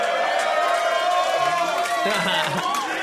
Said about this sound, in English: this is a good crowd because they're cheering a team that consecutively sucked. Yeah. That's why I like this crowd.